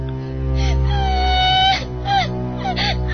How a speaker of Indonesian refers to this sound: suara tangisan itu semakin keras terdengar.